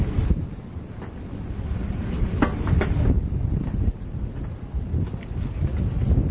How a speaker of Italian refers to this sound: Sì, usciamo all'aperto. Anche per fare una registrazione dal vivo. Qui c'è molto vento.